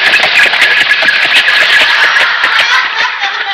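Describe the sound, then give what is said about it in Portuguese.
A loud, rough car engine roars steadily for a few seconds as a car passes by, its gritty buzzing texture broken by rapid crackling pulses, with no one talking over it. “Vamos ouvir o ruído da sua possante máquina esfalfa pneu. Vai passar.”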